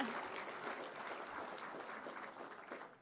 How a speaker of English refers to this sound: Yeah, they do deserve the applause, let me tell you.